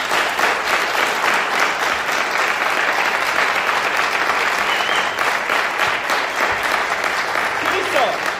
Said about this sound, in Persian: مرسی برای وجودتون، لطفا تشویقشون کنید.